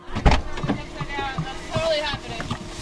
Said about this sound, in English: We figure Hay gets in her car quickly. She's in a hurry.